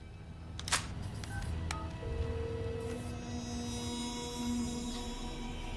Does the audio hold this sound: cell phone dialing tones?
yes